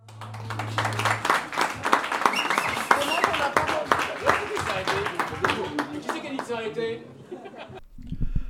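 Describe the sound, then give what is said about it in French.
Dense audience applause for several seconds as guest Philippe de Vichy leaves, many hands clapping at once with scattered chuckles and laughter mixed in, then it abruptly cuts off near the end. “Vous pouvez tous, vraiment tous l'applaudir tandis qu'il repart.”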